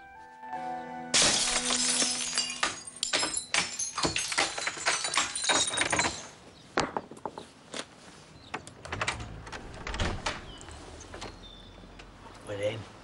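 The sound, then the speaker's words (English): A sharp crash of breaking glass as a brick smashes one of the four panes of an old glass and wood door, followed by a few seconds of shards tinkling and clattering down, then scattered small crunches and debris settling. “Joe picks up a brick and smashes one of the four panes in the old glass and wood door.”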